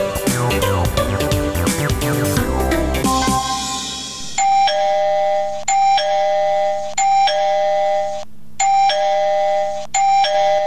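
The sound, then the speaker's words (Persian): After a few seconds of music, a house's gate doorbell rings insistently: about five loud, bright electronic chimes in quick succession, each a sustained ringing tone with a brief pause between presses. “صبر کن آمدم و صبر کن که گوشی ما را کر کدی.”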